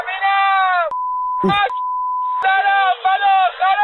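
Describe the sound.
A steady, pure censor bleep tone cuts across a man's speech twice, covering swear words in a recorded report: first a short beep, then a longer one lasting about a second, with talking resuming around and after it.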